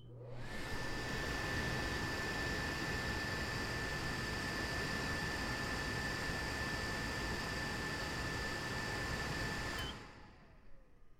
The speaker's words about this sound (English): Let's turn the microwave fan on again and put the microphone right up against the fan.